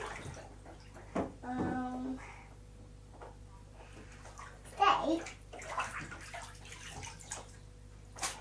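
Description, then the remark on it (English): Water sloshes and splashes in a bathtub, with bursts of bubbling and a few sharper splashes near the middle, while a child's voice chatters faintly in the background. “careful, you're splashing my river.”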